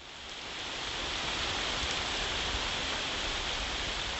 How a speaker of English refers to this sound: This week, that sound of a Virginia spring rain opens an episode